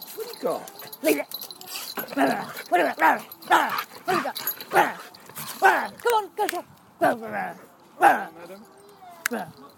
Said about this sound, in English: You seen the doggy?